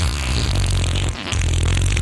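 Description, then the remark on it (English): A loud, drawn-out, buzzy fart sound effect rumbles low, cuts out briefly about halfway, then resumes just as strongly until the end. No one speaks. “Bringing you the best fart sound effects of yesterday, today, and tomorrow.”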